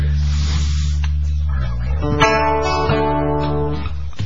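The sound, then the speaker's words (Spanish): A vacuum cleaner or blower runs with a steady, loud motor drone and airy hiss. Partway through, its pitch shifts into a stronger, buzzing whine that continues to the end. “¿Esto va con la correspondiente aspiradora o sopladora?”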